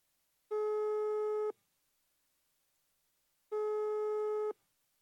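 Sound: telephone ringing tone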